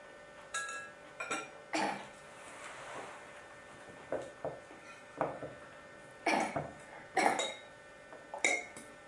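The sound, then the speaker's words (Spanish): A small child coughs in short, scattered bursts, a few spaced coughs followed by a tighter cluster, with light clinking and clatter in the background. “Todavía tiene tosetito este niño.”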